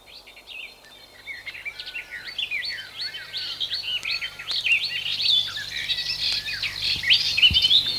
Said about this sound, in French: Puis, il est réveillé par le bruit des oiseaux.